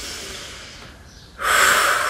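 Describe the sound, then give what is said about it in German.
A long, airy breath: a softer exhale fading out, then a sudden loud, hissing inhalation filling the last half second. No speech. “Ich muss kurz atmen, kurz...”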